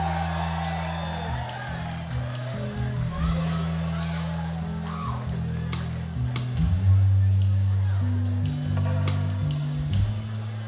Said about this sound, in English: Everyone give a big round of applause for … on the banjo.